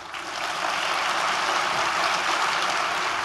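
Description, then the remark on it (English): A crowd claps politely after Mitt Romney says he will never apologize for America, a steady, even patter of many hands that rises quickly and holds at a moderate level for about three seconds, with no voices over it. “Okay, you can hear polite applause there.”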